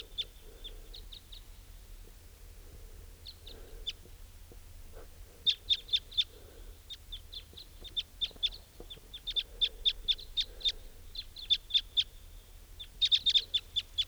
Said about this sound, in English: Place is crawling with crossbills. And they've gone to join some other wild type 2 bird at the edge of this clearing here.